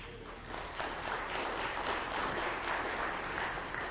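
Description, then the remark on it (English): An audience breaks into applause after a brief quiet start, a dense, steady wash of many hands clapping that holds at an even, moderate loudness to the end, with no one speaking. “I didn't do it for that, but I mean, if you're gonna applaud, applaud.”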